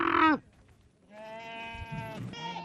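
Goats and sheep bleat at a livestock market in Burao, an isolated desert town in Somaliland: one loud, abrupt bleat, a brief pause, then a longer, quavering bleat over a low murmur of market noise.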